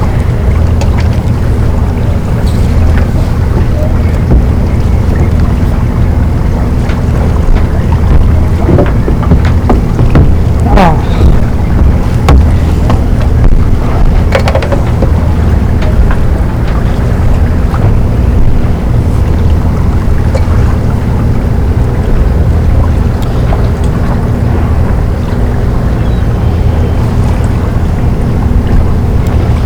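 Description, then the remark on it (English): A boat moving across open water: a steady, loud low rumble with constant wind buffeting the microphone and a few scattered splashes and knocks throughout. “We're talking about us on the boat.”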